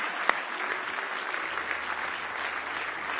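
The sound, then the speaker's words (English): A church audience claps together as a hand clap of praise to Jesus, a dense, steady burst of applause that holds at an even level throughout, opening with one sharp, louder clap. No voices can be heard. “Now give Jesus one big hand clap of praise.”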